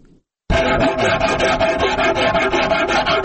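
Steady rhythmic rubbing on wood, a dry scratchy sanding sound repeating in quick strokes, loud and continuous after a brief silent start, with no talking.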